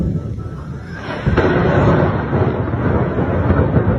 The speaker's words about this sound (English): News agencies in the region are reporting they have witnessed explosions in the breakaway eastern city of Donetsk. An unconfirmed video of explosions has also been posted online.